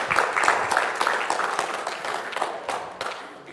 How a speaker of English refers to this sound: And so these are some important guys, and so we want to give them a round of applause and welcome them for being here.